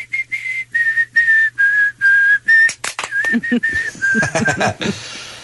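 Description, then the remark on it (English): A clear whistled tune of steady, evenly spaced notes in a song, followed by a few sharp percussive hits and a busier musical stretch as the melody carries on. “what's the deal with that song, you guys? What's that all about? Delicious. They whistle.”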